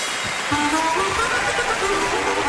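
A steady wash of applause from an audience welcoming a guest speaker, dense and hissy like rain, holding an even loudness throughout with faint tonal murmurs underneath.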